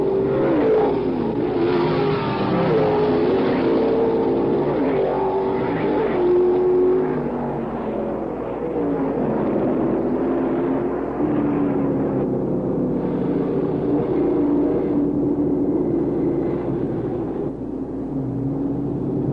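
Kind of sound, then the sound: vehicle, race car engines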